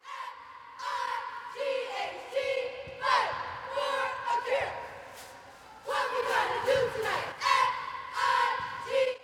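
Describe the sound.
A group of Wilkes-Barre Area cheerleaders chants together at cheer practice in loud, rhythmic shouted bursts, their unison voices energetic, pausing briefly between phrases before starting up again.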